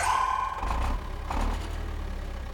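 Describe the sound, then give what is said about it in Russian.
A small truck engine rumbles steadily, with a low continuous drone and a brief rise in revving midway; no voices are heard. “Это небольшой грузовик, который они все очень любили, как будто он был член семьи.”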